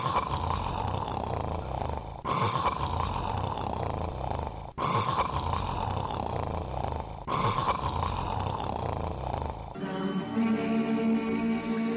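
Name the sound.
person imitating loud snoring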